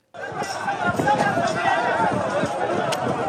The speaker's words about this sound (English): On a dusty road in Khan Yunis, southern Gaza, a crowd swarms a convoy of aid trucks carrying desperately needed food.